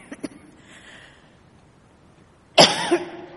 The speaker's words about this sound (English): Don't worry, it's not catchable. It always happens, I start coughing when I get too excited.